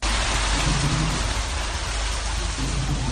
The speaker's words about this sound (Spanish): Es el agua al discurrir en tromba por las calles de la ciudad autónoma. Las tormentas y las fuertes lluvias en estas zonas han provocado ya cortes de carreteras, viviendas anegadas y múltiples desperfectos en coches y en los elementos urbanos.